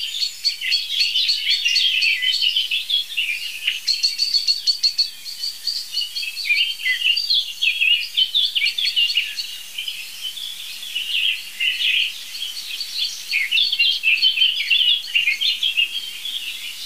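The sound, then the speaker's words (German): A blackbird and a song thrush sing together among old oak trees in a dense, continuous chorus of varied whistled phrases and repeated notes, steady throughout, with no talking. “Aber es ist Amsel-Singdrossel only, würde ich sagen.”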